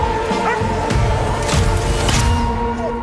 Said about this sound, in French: Et oui, car le chien s'est fait toucher par une flèche empoisonnée.